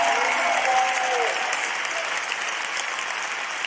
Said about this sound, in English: Clap if I'm preaching right. Clap if I'm preaching right.